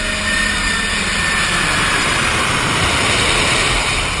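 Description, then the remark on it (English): An Air Force jet plane roars steadily overhead, bringing President Eisenhower's supply of Coors beer to the White House: a loud, continuous engine rush with a deep rumble underneath and a high hiss on top, heard alone with no voices. “President Eisenhower joined in on this treasure hunt, requesting that his supply of Coors be brought to the White House on board an Air Force plane.”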